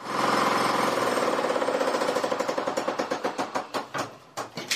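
A belt sander used for fine surface finishing (sanding) runs with a loud, steady grinding whir and rapid rhythmic pulsing that slows and turns choppy as the motor winds down near the end.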